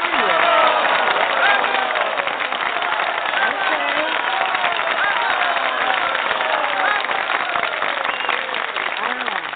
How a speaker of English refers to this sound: Oh, we got to get the audience so we can get some applause on that. Audience, did y'all hear that? I don't hear you.